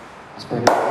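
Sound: champagne cork popping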